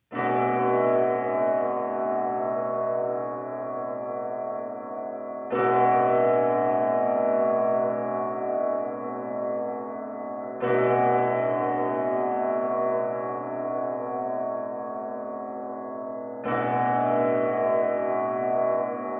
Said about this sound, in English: Once you reach the far end of the square, turn around and marvel at the cathedral's facade. While you listen to those bells. Hey, I think I can hear them now.